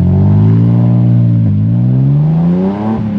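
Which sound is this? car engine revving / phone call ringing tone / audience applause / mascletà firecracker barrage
car engine revving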